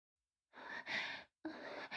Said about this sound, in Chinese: 我低头喘息了片刻